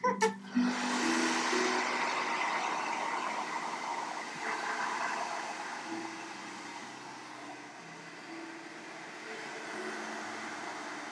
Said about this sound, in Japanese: 私がドライヤーを。